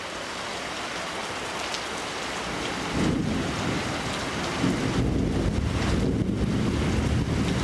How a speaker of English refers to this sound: The tropical thunderstorm is coming down hard on the city of Mayagüez.